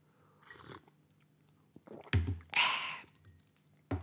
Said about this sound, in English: I'm going to have a slurp of my coffee here.